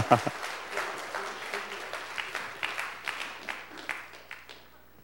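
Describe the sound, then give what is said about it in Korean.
An audience at a ranking announcement breaks into applause, a dense wash of many hands clapping steadily for several seconds at moderate loudness, with a brief vocal burst at the start and the clapping tapering off at the end. “리스트를 한번 큰 박수 하겠습니다.”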